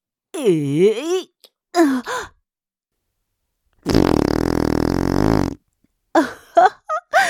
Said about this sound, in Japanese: くっさー。おならもちゃんと嗅がないとダメじゃないの。